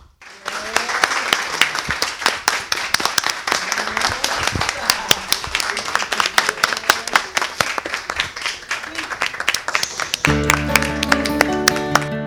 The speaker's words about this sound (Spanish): Pero por si alguien no me cree, ¿será que ustedes pueden aplaudir bien fuerte?